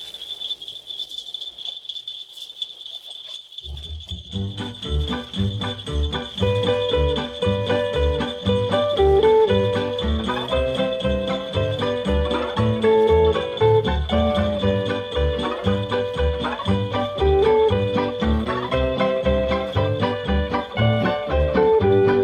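After a few seconds of near silence with a thin high whine, a Western swing band launches into a vintage Western swing arrangement of Jingle Bells, upbeat and instrumental, with a bouncing bass and bright, busy melody lines.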